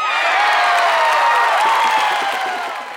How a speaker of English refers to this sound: The audience enjoyed the first half very much. Rosie performed well and they applauded loudly.